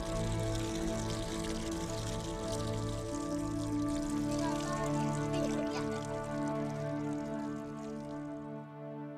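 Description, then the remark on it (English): A small stream of clean water trickles and splashes steadily for several seconds, continuous, layered over a sustained, humming musical drone. “I want to ask you to make that scene of that water flowing, that clean water, a reality”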